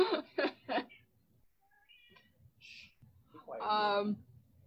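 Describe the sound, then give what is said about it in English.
A cat vocalizes: three quick, clipped calls in a row, a pause with faint rustling, then one longer, rising-and-falling meow-like cry. “The cat's like, I want to watch the Jedi get killed too.”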